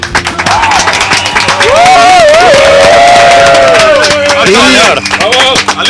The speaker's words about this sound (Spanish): Un fuerte aplauso.